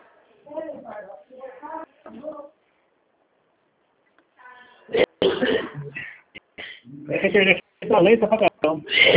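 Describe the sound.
A couple of short, sharp coughs from two people break in among stretches of people talking, with a brief quiet pause partway through.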